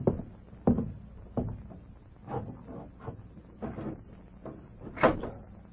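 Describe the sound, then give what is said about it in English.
A window being pushed open: a run of wooden bumps, rattles and scraping slides spread over several seconds, moderately loud, with no voices. “Go over there and open that window.”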